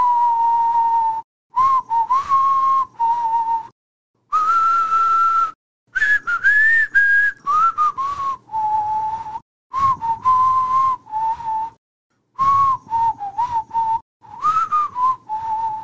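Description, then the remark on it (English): A person whistles a wandering tune in a series of clear, steady phrases with short pauses between them, fairly loud, with no talking. “Have you ever heard of the whistle walk or the whistling walk? First of all, can you even whistle?”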